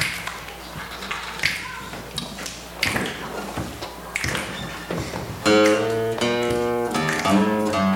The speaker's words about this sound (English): So help me out with the finger snap here. All right.